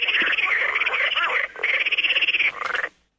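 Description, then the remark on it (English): A toilet alarm blares a loud, buzzy, rapidly pulsing tone that sounds almost like croaking, in three bursts with short breaks between them, and then cuts off abruptly. “Don't hang up on me when I'm trying to explain the toilet alarm.”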